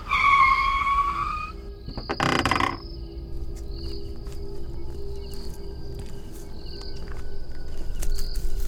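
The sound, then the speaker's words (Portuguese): A car loses control with a sharp, shrill tire squeal lasting about a second and a half, then a brief rough crash as it plows off the road into brush, followed by steady insect chirping and a quiet background hum. “Aí você percebe que o carro, ele perde ali a direção e ele entra pro meio do mato.”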